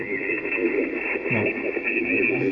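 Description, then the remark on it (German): A weak, garbled radio transmission answering a call for stations in the Oscar Echo 5 area, buried in steady static, with a faint voice that can't be made out, band-limited and hissy throughout. “Sorry, ich verstehe das leider nicht ganz. Es kommt nicht ganz drüber.”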